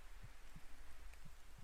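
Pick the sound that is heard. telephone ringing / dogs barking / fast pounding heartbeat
fast pounding heartbeat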